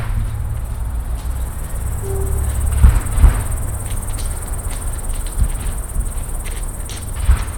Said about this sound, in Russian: На этой записи пересекаются несколько ритмических рисунков. Колеса медленно перекатываются через железнодорожный Вифанский переезд, музыка из окон машин, шаги по гравию и сумасшедшие кузнечики.